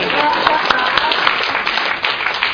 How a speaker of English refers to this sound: I guess I'm clapping by myself.